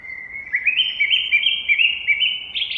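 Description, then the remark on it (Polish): Birds chirp and sing continuously in a bright, high-pitched chorus of rapid trills and tweets, moderately loud, with no talking. “Proszę, niech każdy nastawi aparat, bo sfrunęły się ptaszki dla odbycia narad.”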